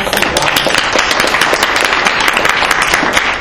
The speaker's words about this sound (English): Before I get on the time, can I just make a comment and applaud Mr. Adami? Awesome job, Mr. Adami.